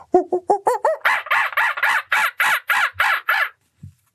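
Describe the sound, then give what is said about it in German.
A voice imitates a monkey with a quick run of about a dozen rhythmic calls: short tonal hoots rising in pitch, then louder, harsher shrieking 'aa' sounds, ending abruptly. “Sie hat das Affengeräusch imitiert, das ich ihr immer vorgemacht habe.”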